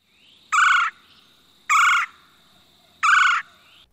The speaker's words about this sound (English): Look high up for holes, or listen for the angry chicken call of the red-bellied woodpeckers that often nest in this area.